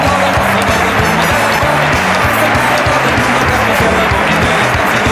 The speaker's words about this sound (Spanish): ¡Aplausos!